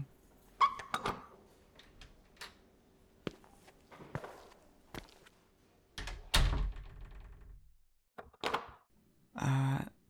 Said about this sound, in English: Can you come in? I'll unlock the door for you.